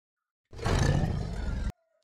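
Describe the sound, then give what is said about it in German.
A single loud tiger roar, deep and rumbling with a rough growling texture, lasting just over a second before cutting off abruptly into silence. “Und das zweite war ein Tiger.”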